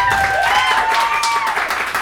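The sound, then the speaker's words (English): A crowd applauds to vote for hearing a song about plastic surgery, with dense, loud clapping that holds at an even level throughout, a few whoops or cheers riding over the top. “Okay, round of applause for plastic surgery.”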